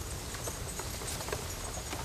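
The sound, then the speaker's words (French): Soft, irregular clip-clops of an old horse's hooves as it pulls a wooden cart in Ukraine, over a steady outdoor rumble and hiss, the steps fairly quiet, with no one talking. “Le paysan arrête son cheval, remonte difficilement son pantalon et entre dans une maison isolée dans les grandes plaies.”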